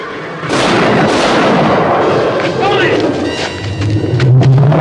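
gunshots fired

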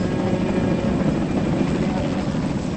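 helicopter flying off

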